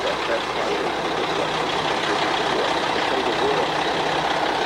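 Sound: truck engine idling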